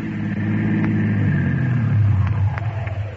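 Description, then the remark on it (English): A car engine rumbles in, growing louder and deeper, then eases off and idles down as the car is flagged down and slows to a stop. No voices are heard. “All right, flag him down, will you?”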